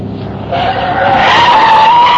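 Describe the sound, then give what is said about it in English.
A car that has run out of gas skids to a stop, its tires squealing loudly in a sustained, rising screech lasting about two seconds, with engine and road noise underneath and no voices. “No, I can't be out of gas.”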